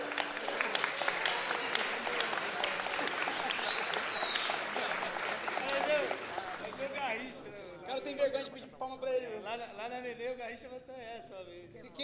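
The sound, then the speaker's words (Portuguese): A crowd breaks into loud, steady applause, a dense wash of clapping that holds for several seconds before thinning out as a voice starts talking over the last scattered claps. “Ó, gente, agora é o seguinte: uma salva de palmas pra mim.”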